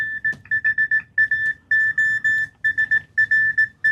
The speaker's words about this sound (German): Jetzt haben wir gerade noch ein Beispiel von Morse, hoffe ich mal.